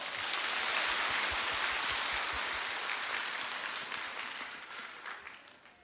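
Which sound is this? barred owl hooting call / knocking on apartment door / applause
applause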